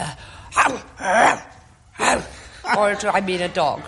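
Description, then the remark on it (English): A man imitates a barking zebra with a string of short, breathy, yelping calls, a few sharp bursts followed by a higher, squealing whinny-like stretch. “That was perfectly good barking zebra we heard.”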